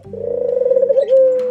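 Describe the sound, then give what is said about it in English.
A dove coos once: a low, hollow call with a fast rolling flutter that smooths into a steady held note near the end. No voices, no other sounds. “For instance, there's the coo of a dove.”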